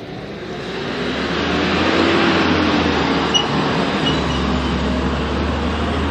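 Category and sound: vehicle, garbage truck passing outside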